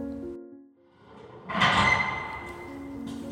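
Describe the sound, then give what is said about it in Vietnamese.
An iron door is slid open slowly and gently, with a scraping, grinding rasp that swells for a second and then trails into a low rumble, moderately loud. “Cánh cửa sắt được kéo nhẹ, chị vừa đi vừa run.”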